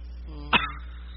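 A single short, sharp bark from a dog, a quick loud yap over a faint steady background hum, with nothing else around it.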